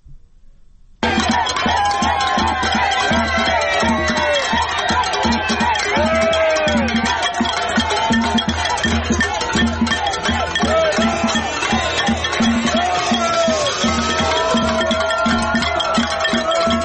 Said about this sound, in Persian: صدای شادمانی مردم مخالفان فیدل کاسترو رو در میامی آمریکا میشنیدیم